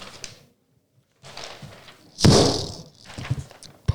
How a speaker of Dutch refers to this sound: Ineens een harde gil en een knal. Bam! Alle deuren die open stonden waren ineens dicht.